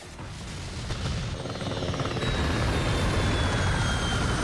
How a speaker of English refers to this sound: Hitting the tarmac, the helicopter explodes in a fireball.